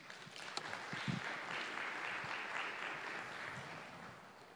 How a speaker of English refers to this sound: Clap for Jesus.